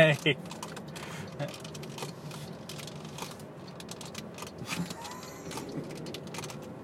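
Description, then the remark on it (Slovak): Persistent crunchy rattling and irregular clicking from a worn car part, steady, over a low engine-like rumble, with a couple of sharper knocks at the start. “Je to super zvuk, akože perfektný. Tak si toto chrumka. Taký crispy. Toto auto je také crispy chicken.”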